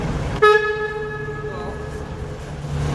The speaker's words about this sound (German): Wow. Schon laut, ja. Schon laut. Ja, einfach mal unser Nebelhorn betätigt.